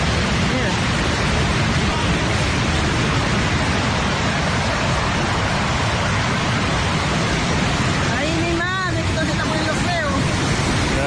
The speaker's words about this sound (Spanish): un vídeo que está circulando por la red, donde en un momento determinado en el muelle sube el mar de tal forma que hay personas que tienen que salir corriendo para evitar la ola.